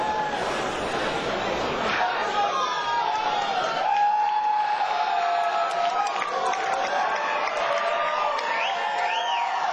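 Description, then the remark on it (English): A large rock concert crowd cheers and whoops continuously as the band returns to the stage for its second set of the night. A dense roar of many voices with scattered high shouts rises above it, loud and sustained throughout. “You guys are the best fucking crowd that I think any of us have ever seen in our entire lives.”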